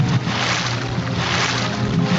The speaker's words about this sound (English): I like those water sounds. They are relaxing, and with the music in the background.